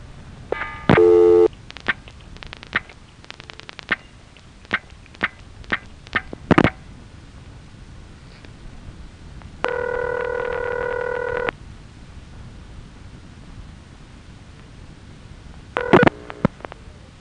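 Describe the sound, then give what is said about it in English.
Payphone coin collect and return tones as an operator presses her coin collect and then coin return keys: a short buzzy tone burst, a run of sharp relay clicks, then a steady two-second electronic tone and a final brief burst. The high tone is used for coin return. No voices. “Now, the high tone, most often associated with phones off the hook, was used for coin return.”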